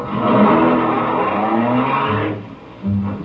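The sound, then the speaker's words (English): A car pulls away in wet, rainy weather, its engine revving and tires squealing over a rough, rushing roar that drops off near the end before a short final burst. No one speaks. “Let's get back in the car.”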